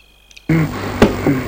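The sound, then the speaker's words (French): A head knocks against a wooden floor: a heavy thud breaks a near-silence, followed by a sharper knock and a softer bump, with a low resonant rumble lingering underneath. “Eric cogne la tête sur le plancher.”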